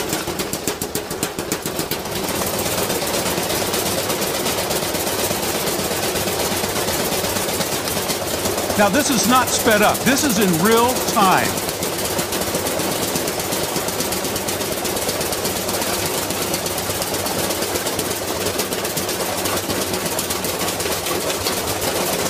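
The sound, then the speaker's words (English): A brand-new clothes dryer tumbles loudly with a heavy object thrown inside, producing a steady mechanical rumble and rapid, relentless knocking throughout, while a man briefly speaks over it partway through. “He sticks an object into this dryer and watch what happens.”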